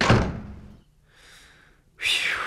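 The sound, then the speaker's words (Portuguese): A door thuds shut, its low thump fading quickly, followed by a soft rustle and then another sharp, loud burst of sound at the end. “Eu quero fechar essa porta.”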